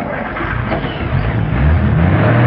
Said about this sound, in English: Driving across the street, Lee takes the car partway up onto the sidewalk.